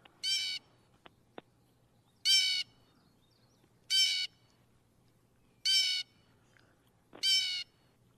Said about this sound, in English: Pretty typical call for the blue jay, right? Yes, and that's one of those birds that I think everybody should know at least that call from, and they also got their name from that. It sounds as if they're saying jay, but these are very social birds.